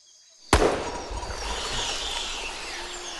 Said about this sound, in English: Suddenly, a gunshot rings out and he sits up.